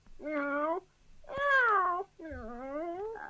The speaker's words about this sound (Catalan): Ai, ai, que bé que enrona aquest gatet. Quina veu més bonica que té, comparada amb aquella bouassa del gos i amb aquells crits del gall.